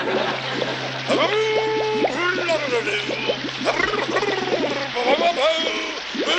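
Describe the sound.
In a Flintstones cartoon scene, water runs steadily into a sink filled for showering, a constant hissing splash lasting the whole stretch, with people talking over it.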